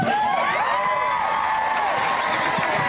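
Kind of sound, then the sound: crowd, crowd cheering at rally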